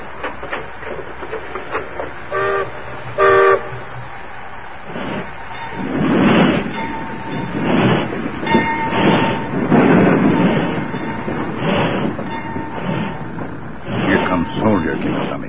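Two short, bright whistle blasts, then a steam train starts pulling out, its heavy chuffing bursts building into a steady, loud rhythm.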